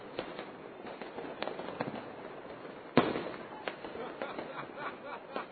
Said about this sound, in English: Wait, what's funny about a firework? What would make you laugh at a particular firework? It's not funny in itself. It's just the scale of the things we're seeing around us.